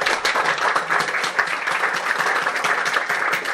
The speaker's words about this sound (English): All right, well, with that, I think let's join me in giving our panelists a round of applause.